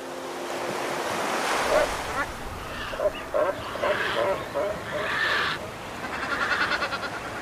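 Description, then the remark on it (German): Ocean surf washes steadily against the granite rocks of the Chincha Islands off the coast of Peru, a constant broad rush with swelling pushes, while repeated short bleating-like calls of crowded seabirds such as cormorants, pelicans and boobies ring out above the waves. “Ein paar Granitfelsen im Meer vor der Küste von Peru.”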